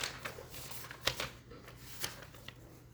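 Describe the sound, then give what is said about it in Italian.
Soft papery rustling with a few sharper flicks as the pages of a printed book are leafed through in search of Elegy 10, fairly quiet and uneven in rhythm, with no one speaking. “Visto che tu hai detto Elegia 10, in questo caso faccio prima a trovarla su pagina, sulla carta, se no faccio prima di solito a cercare.”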